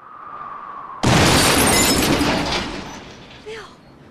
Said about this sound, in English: He might be okay. The car explodes. Well, no, probably not now. A bright orange fireball rises into the sky.